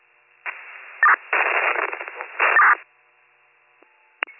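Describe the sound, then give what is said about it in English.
Harsh bursts of radio static crackle through a narrow, tinny transmission channel, cutting in and out in several choppy segments before a brief tone and a final sharp click. “Oh, static again.”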